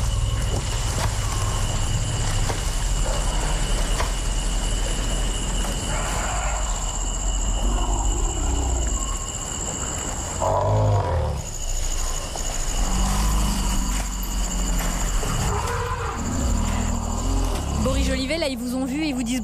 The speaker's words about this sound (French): Allez, un petit dernier pour la route, dans le genre plus costaud, quand les éléphants arrivent.